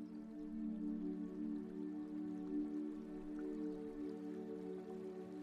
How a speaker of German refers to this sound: Von weitem hörst du das Rauschen von Wasser.